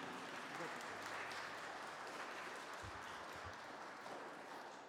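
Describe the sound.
Steady applause from a parish audience thanking a priest, a dense, continuous patter of many hands clapping at even loudness, with faint voices mixed underneath.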